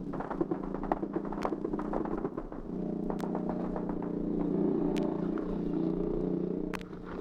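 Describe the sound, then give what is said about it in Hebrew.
Bursts of machine gun fire crackle in sharp, irregular volleys toward Jenin, heard from a trench about 200 metres from the police station with bullets passing overhead, densest early on, with scattered single cracks later, all over a steady low droning hum; no one speaks. “ומכל עבר אפשר לשמוע יריות ממקלעים לעבר ג'נין, וכדורים חולפים מעל לראשינו.”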